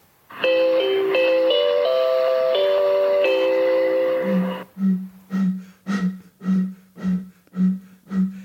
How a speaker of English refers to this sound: So, we'll play you the little railway station jingle first, which goes like this.